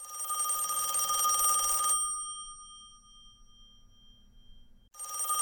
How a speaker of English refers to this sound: Whoa, wait a minute. Is the phone actually ringing this week? It is. It is. Let's see who's on the rotary.